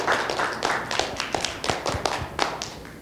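An audience claps steadily for a few seconds for a pastor being called up, a dense patter of many hands with sharper individual claps standing out, moderately loud and without any talking.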